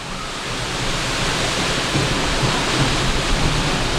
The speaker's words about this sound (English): I have never seen water like this, just the force of it as it comes down and hits the standing water. It's really, words fail me.